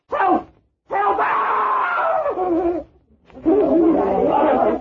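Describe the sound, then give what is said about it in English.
A man screams for help in loud, drawn-out cries, a short yell followed by two long, strained screams separated by brief silences, intense; he screams because a disembodied woman's hand holding a knife tried to stab him. “Why did you call for help? What made you scream?”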